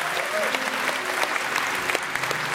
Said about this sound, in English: Isn't this a beautiful sight? Come on, let's clap for these people today.